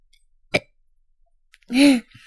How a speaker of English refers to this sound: Thank you for burping on the microphone. That was real nice of you to burp for me.